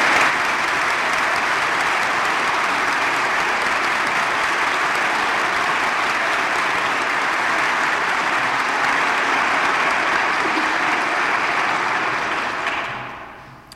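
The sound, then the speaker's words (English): Sustained applause from an audience thanking the singers and musicians who performed, a dense steady wash of many hands clapping at even loudness for about thirteen seconds before tapering off quickly at the end. “There couldn't we clap and express our appreciation?”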